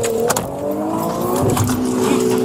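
A car engine roars loud as the vehicle accelerates hard out of a parking lot at high speed, its rising whine steady for a couple of seconds with gritty bursts of tire and road noise.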